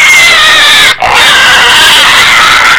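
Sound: pig squealing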